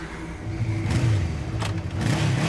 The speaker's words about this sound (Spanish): Una moto travessa l'aparcament.